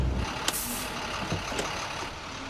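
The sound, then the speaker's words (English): A garbage truck rumbles steadily as bin bags are tossed into the back, with a sharp hiss of air brakes near the start and another brief burst a second later, no voices. “tosses bin bags into the back of the truck.”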